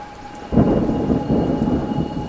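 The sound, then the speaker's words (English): Heavy rain pours down in a steady roar, with a deep rumble of thunder swelling in about half a second in and rolling on beneath the downpour. “And wherever Charlie goes, rain seems to follow.”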